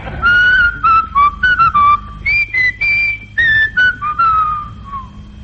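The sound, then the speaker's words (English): A person whistles a slow, simple melody, clear and fairly loud, the notes coming in short phrases with brief breaths between them, tapering off softly at the end. “Do you want to hear me whistle Swanee River?”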